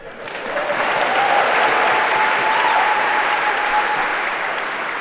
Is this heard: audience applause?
yes